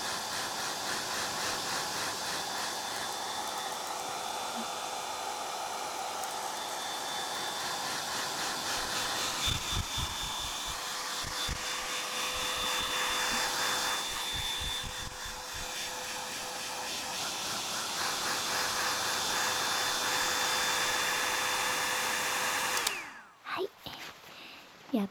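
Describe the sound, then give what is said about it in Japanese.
A hair dryer on a strong setting blows a steady, loud rush of air onto the back of the head to dry short hair, with a thin motor whine running underneath, holding constant for about twenty-three seconds before cutting off abruptly. “なるべく強い風で、後頭部にも風を当てますよ。”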